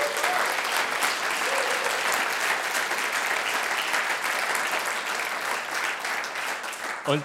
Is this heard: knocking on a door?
no